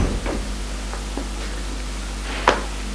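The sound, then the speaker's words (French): A door is shut by a father as he walks out, a single short thud near the end, preceded by a few faint soft knocks, all over a steady low hiss and hum. “Le père sort et ferme la porte.”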